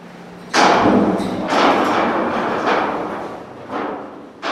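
A heavy corroded metal door at a decommissioned Atlas F missile base grinds open onto a cavernous underground silo in a series of loud scraping, rumbling surges, each jolt starting abruptly and fading, over a steady low hum.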